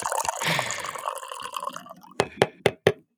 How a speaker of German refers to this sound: Deswegen schenke ich jetzt einen Kaffee live ein. Das ist der Break.